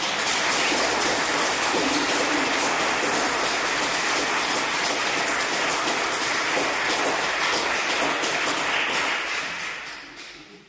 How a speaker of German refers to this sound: Ihr habt schon ganz viel Farbe und Freude in diese Guten Abendkirche gebracht und zum Glück können wir euch auch gleich nochmal zum Abschluss hören. Ich glaube, jetzt ist der richtige Moment für einen dicken Applaus.